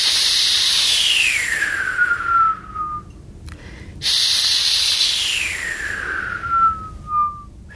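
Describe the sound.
A person blows two long, breathy hisses of the H sound in 'he', separated by a short pause, intensifying the hiss as a way to learn to whistle. Each carries a whistly tone that glides steadily downward in pitch as the breath trails off. No speech.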